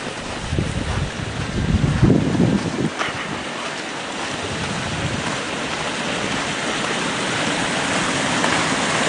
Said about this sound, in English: creek is roaring. It has been running hard.